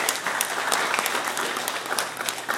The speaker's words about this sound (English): And I would like you to just clap for yourselves this morning. Because I think that is it.